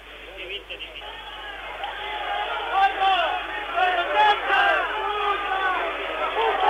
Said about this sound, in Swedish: Och nu när striderna är över, då ropar publiken som har samlats här, som har vågat ta sig fram, skymford mot de rebeller som har gett sig och som nu stiger upp här i transportlastbilen.